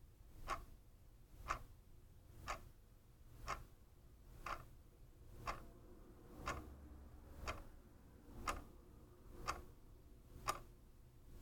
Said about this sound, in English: You normally don't hear the ticking clock, but the seconds are always there, ticking away.